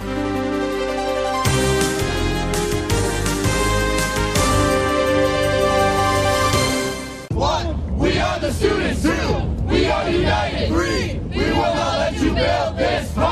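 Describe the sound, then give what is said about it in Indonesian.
A loud crowd of protesters outside the White House on Tuesday, 24 January 2017, chants and shouts in rhythmic bursts against President Donald Trump's executive order to continue the Keystone XL and Dakota Access oil pipeline projects. Many voices overlap, following several seconds of sustained, steady tonal sound. “Sejumlah massa berdemonstrasi di luar Gedung Putih hari Selasa 24 Januari 2017 memprotes kepres yang ditandatangani Presiden Donald Trump guna melanjutkan proyek jalur pipa minyak yang kontroversial Keystone XL dan Dakota Access.”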